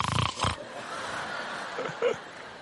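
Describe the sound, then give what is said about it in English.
A voice imitates snoring: a couple of loud, rasping snorts at the start, then a long breathy wheeze trailing off, ending in a brief nasal whistle. “I know also how to snore in English.”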